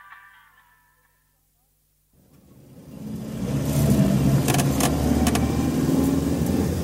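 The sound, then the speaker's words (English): After a short silence, a car engine cranks over slowly and sluggishly and labours up to a steady, loud rumble, with a few sharp rattles and clicks over the running motor. “Seems a bit sluggish today, Dad. Yes, it does. Ask Mark to look at it for you. He's brilliant with cars, isn't he?”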